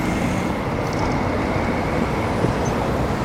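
Loud traffic roar from a busy urban motorway with two lanes each way, as a van overtaking a truck on the right brushes past a cyclist; the dense rumble stays steady and heavy throughout, with no voices.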